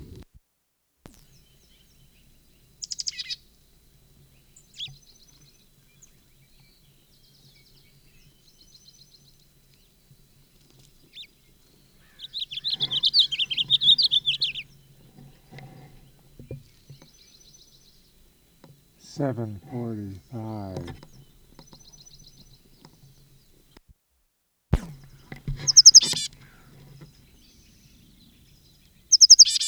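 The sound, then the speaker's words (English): Wild bird song from a bird on a conspicuous perch at the west end of a bench south of a school, at 7:53, in scattered bursts: a brief high chirp, then a louder rapid trilling phrase, and a few more sharp high notes between long quiet gaps over faint low background hum. “Bird on conspicuous perch.”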